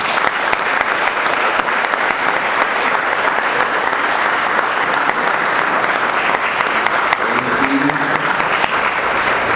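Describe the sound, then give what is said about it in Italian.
A large audience at a conference claps steadily and enthusiastically, a dense, continuous wash of applause that fills the whole stretch without letting up, with no one speaking over it. “Quindi io penso che a loro dobbiamo un applauso sentito e meritato.”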